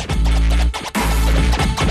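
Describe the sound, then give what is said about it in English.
A DJ's turntable scratching cuts in over loud, bass-heavy dubstep music, with choppy back-and-forth bursts and a sudden break before the beat surges back in. No one speaks. “And in the background, we hear … scratching in.”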